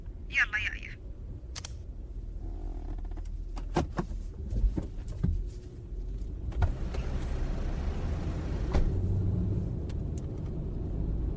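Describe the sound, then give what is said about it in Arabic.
A car engine starts up and settles into a steady low rumble, with several sharp clicks and knocks scattered over it and muffled voices underneath. “يلا أنا جهزت، بشغل السيارة بترياج، لا تبطين علي.”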